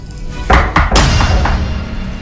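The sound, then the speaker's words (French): Several solid knocks on a door, three firm thuds in quick succession followed by a couple of softer taps, with no one talking. “On frappe à la porte.”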